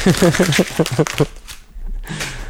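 A voice speaks briefly, then crinkling and rustling follows as a sheet of paper used as a mask is handled and pulled away, a dry scratchy flutter lasting about a second.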